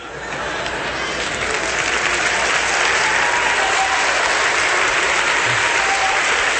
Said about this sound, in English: You clap like you almost believe that.